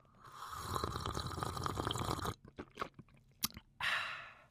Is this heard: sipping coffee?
yes